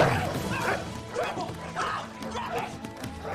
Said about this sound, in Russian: Завязывай, отпусти! Плохая собака!